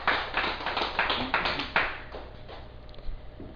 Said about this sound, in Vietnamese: Xin quý vị vỗ cho một tràng pháo tay.